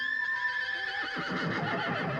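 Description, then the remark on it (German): A horse hanging from a church tower above a square whinnies in a drawn-out, plaintive cry with wavering tones, sounding distant and thin and seeming to come from the air above, followed by a rougher, fluttering snort-like tail as the call breaks up. “Ich hörte Gewieher.”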